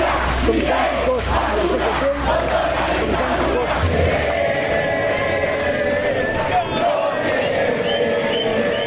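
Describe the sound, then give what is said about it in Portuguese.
A large protest crowd of bus drivers, bank workers and teachers gathered near the parliament during a session shouts and yells in a dense, continuous roar of overlapping voices, loud throughout, with a low rumble underneath during the first few seconds. “Motoristas de ônibus, bancários e professores começaram a se reunir perto do parlamento assim que a sessão começou.”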